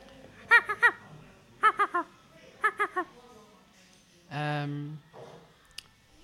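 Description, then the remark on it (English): A voice imitates seagull calls: three bursts of sharp, rapid yelping cries, followed by a longer drawn-out squawk and a softer trailing call. “I can make various seagull sounds, like”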